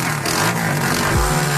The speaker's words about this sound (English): It's a car, the go-kart, right? You're like, so what? No, no. It's a Barbie dream car. It goes 60 miles an hour. And the dude almost drives it off a cliff in the one video.